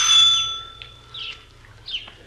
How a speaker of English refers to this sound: We went up to the front door and rang the bell.